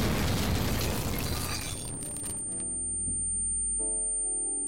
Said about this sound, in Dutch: Een Duitse militair wierp een granaat naar binnen. De explosie had iedereen in de kelder kunnen doden. Toen Betta Voskuil de granaat zag, greep ze Henry stevig vast. De granaat ontplofte.